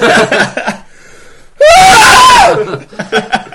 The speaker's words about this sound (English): Fuck's sake! Stop screaming on the TV!